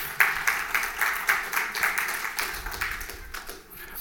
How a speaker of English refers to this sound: How about a round of applause for Hopeful?